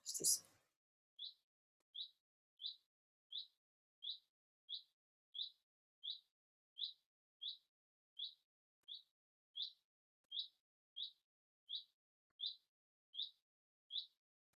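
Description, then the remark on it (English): A bird repeats a short, high chirp at a steady rhythm, roughly one note every second, after a brief burst of noise at the start, with a quiet, still background. “Just give them to the bird song, if you can hear it.”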